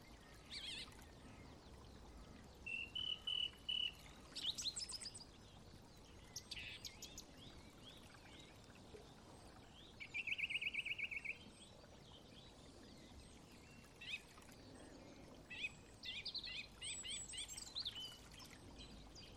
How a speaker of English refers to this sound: Listening to birds. Birds telling the divine how glorious it is to be a bird.